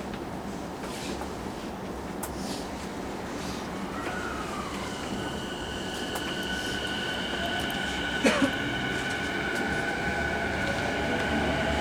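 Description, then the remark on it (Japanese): A subway train runs steadily through a tunnel toward Kokkai-gijidomae station, a continuous low rumble with rising metallic whines and a brief clank near the end, loud with no talking. “次は国会議事堂前です。”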